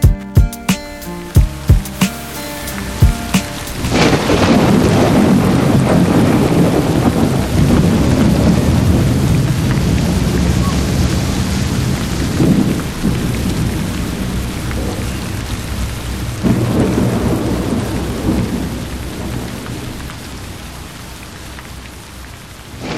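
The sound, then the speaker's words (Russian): A heavy thunderstorm: steady rain pours down while deep thunder rumbles and rolls close by, swelling loud after a few sparse opening tones, with no voices. “Где-то совсем рядом гремела молния, я ступал вперед по лужам, тоской наполненный.”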